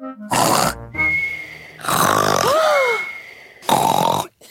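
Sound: voice imitating loud snoring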